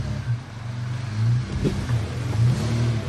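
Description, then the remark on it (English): A truck engine revs loud, its low throaty drone rising and falling in several pushes as it strains under load climbing up a waterfall, with no voices. “If ever, my truck basically walks up pretty much anything, even in the rain.”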